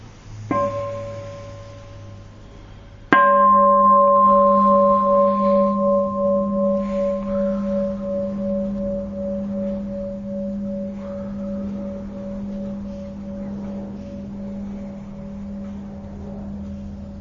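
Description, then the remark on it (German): A meditation bell, rung to pause for breathing, is tapped softly, then struck firmly a few seconds later, its deep, wavering tone ringing on and slowly fading away over many seconds, with no voices. “Ja, und dann ist, jetzt machen wir nochmal eine Glocke, um zum Atmen zu kommen.”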